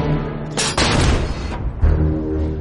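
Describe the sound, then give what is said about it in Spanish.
A US 105 mm howitzer fires with a loud booming blast, followed by a rolling, rumbling decay that fades into low background noise. No one speaks. “La artillería estadounidense responde disparando desde una de sus piezas de artillería.”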